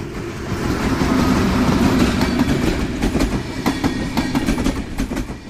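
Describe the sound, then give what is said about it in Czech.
A train rolls past on the railway line separating family houses from the Vratimov industrial zone in Czechia, a steady heavy rumble with rhythmic clacking of wheels over rail joints, loud throughout with no voices. “Od Vratimovské průmyslové zóny odděluje rodinnou zástavbu ještě železniční trať.”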